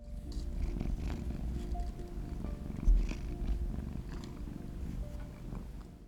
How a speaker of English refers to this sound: Styles pats his chest and says up, and Derek bounces into his arms with ease, his contented purrs undulating against Styles' sternum.